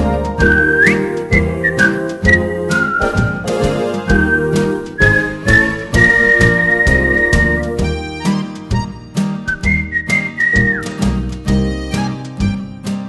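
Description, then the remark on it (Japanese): Bright, cheerful live-performed whistling carries a bouncy melody over an upbeat electronic techno backing track with a steady beat, the whistled line sliding between sustained notes, clear and prominent throughout. “もうすっかり定着した生演奏の口笛、今回も爽やか軽快、ご機嫌な BGM にしました。”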